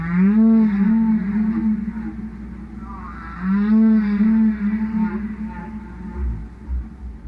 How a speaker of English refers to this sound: And the other thing these Greenpeace activists are doing, they're blasting … whale record.